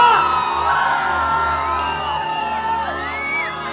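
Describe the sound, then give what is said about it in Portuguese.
A large crowd shouts and cheers loudly and continuously, with many overlapping voices whooping and yelling at high pitch, an audience at a live concert in Viçosa, Minas Gerais. “Quando meu amor explode o coração, é muita emoção. Grita, grita, grita!”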